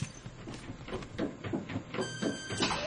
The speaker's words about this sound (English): That's odd. I wonder why the machine door closed.